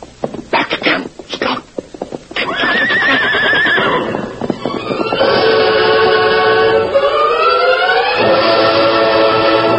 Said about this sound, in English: Sheriff Bart Kramer heard the hoofbeats of a hard-running horse stopping fast in the street before his office and looked out to see Ben Packett dismount and hurry across the boardwalk toward the door.